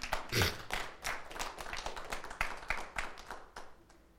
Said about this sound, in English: Hallelujah. You can clap for God. Clap for God.